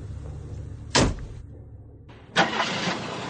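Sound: car engine starting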